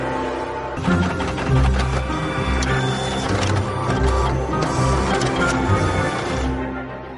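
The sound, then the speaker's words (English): A printer, just unblocked after software reset its counter chip to zero, runs steadily for several seconds, its motor whirring with mechanical clicks and clunks as paper feeds through, fairly loud with no voices. “The printer immediately unblocks.”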